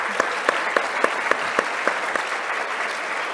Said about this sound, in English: Let's give our panelists a round of applause.